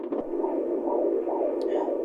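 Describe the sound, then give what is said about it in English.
A fetal heartbeat of a baby boy on an ultrasound doppler, the probe held by a 3-year-old girl during the ultrasound of a woman 8 months pregnant: rapid, steady whooshing pulses about twice a second over a constant hiss, fairly loud, with no one speaking. “She lets the woman's 3-year-old daughter hold the ultrasound rod to hear her brother's heartbeat.”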